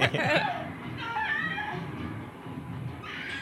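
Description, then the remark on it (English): Dogs bark and whimper, opening with a quick burst of sharp yelps, then a drawn-out whine against a steady, busy background. “So, ooh, these dogs are barking.”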